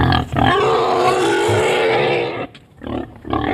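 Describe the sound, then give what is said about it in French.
Male wild boars fighting flank to flank in a forest, striking with their heads and tusks, with loud, harsh grunts and squealing roars that run almost continuously for two seconds, then break into shorter, rougher bursts after a brief lull. “les sangliers engagent le combat.”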